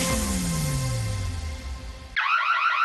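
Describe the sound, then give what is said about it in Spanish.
A loud electronic alarm blares, first a descending wailing sweep with a steady drone, then switching abruptly to a rapid, warbling high-pitched pulse, without any talking. “Todas las alarmas suenan igual, pero no protegen igual.”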